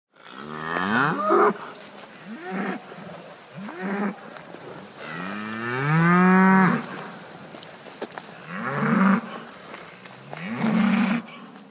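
A cow moos repeatedly, with several short, low calls and one long, drawn-out bellow in the middle. The mooing is loud, with faint background noise and no talking.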